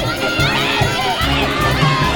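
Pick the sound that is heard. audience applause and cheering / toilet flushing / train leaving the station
audience applause and cheering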